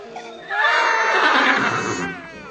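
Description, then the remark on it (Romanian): A ridden horse, stopped to rest in a forest clearing in the mountains after a climb, gives a loud, drawn-out snorting whinny lasting about two seconds, rising quickly and then tapering off, with no one speaking. “Au început să sfure cai și să-și ciulească urechile înspre partea de unde venea zgomot.”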